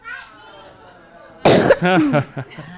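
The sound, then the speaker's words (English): A child coughs loudly into the microphone, a sharp burst followed by a few rough, uneven coughs, after a stretch of quieter voice in the background. “No, your kid's coughing. Don't cough in the mic.”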